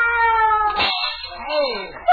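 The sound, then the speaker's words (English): A cat lets out a loud yowl after its tail is stepped on, a drawn-out wavering cry that cracks into a harsher screech midway before sliding down in pitch, with no one talking. “It was a cat. I guess I stepped on its tail.”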